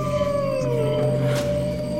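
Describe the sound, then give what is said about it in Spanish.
Long, sustained howls with slowly gliding pitch, several overlapping voices rising and falling together, reverberant, echoing through a forest. “Y mientras los árboles me rasgaban la cara y mientras la luz de la luna iluminaba mi camino de vuelta a casa, solo escuchaba los terribles aullidos retumbando por todo el bosque.”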